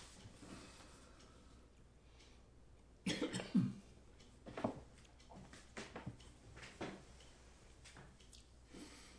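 A harsh burst of coughing, two or three rough coughs in quick succession, followed by a few quieter scattered coughs and throat sounds against a faint, quiet background.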